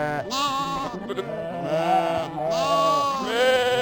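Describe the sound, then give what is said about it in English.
Several sheep bleat in overlapping, wavering calls, loud, one cry running into the next for a few seconds with no talking. “And they multiplied and became many flocks of sheep.”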